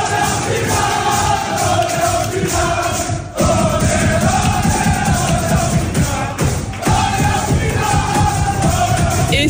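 PSG players shout and cheer together in their locker room after qualifying for the Champions League final, a dense, loud, continuous roar of yelling and chanting voices that barely dips for the whole stretch.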